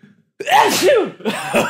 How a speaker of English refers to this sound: I got to sneeze. This is... Uh-oh.